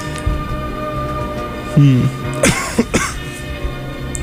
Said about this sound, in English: Yeah, cough's going around campus. Not the flu, though.